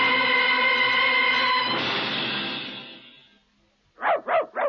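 A long, steady tone swells and fades away into quiet, then a dog lets out three quick, loud barks in a row.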